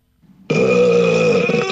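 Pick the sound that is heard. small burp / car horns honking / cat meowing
small burp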